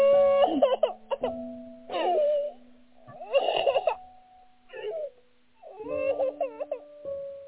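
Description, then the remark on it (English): An infant fusses and cries in several short, wavering bursts with brief pauses between them, fairly clear, over a faint steady background hum. “you hush now. You don't have to worry.”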